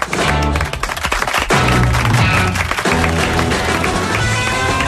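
A burst of clapping, dense and steady, mixed with loud background music carrying low sustained notes, lasting about five seconds with no voices.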